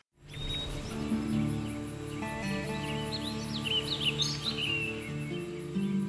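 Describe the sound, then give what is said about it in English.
Several birds chirp and trill in quick, overlapping calls over a steady low hum and a faint high insect-like buzz, with no voices, played as the sounds of a new bird exhibit at a museum in Concord. “You're listening to the sounds of a new exhibit at the Concord Museum called Alive with Birds.”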